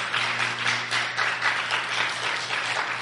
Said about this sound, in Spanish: Es más, denle un aplauso al Rey de Reyes y Señor de Señores.